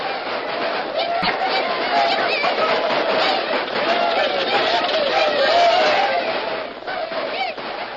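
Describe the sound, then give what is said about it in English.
A roaring crowd in the gold-rush boom camp of Mariposa fills all eight seconds: many voices shouting and chattering at once in a dense, steady din that swells slightly toward the end, with no single voice standing out. “Yes, Uncle Joe Littleton had struck gold in the Palermos, and overnight the peaceful settlement of Mariposa was changed to a surging, roaring boom camp.”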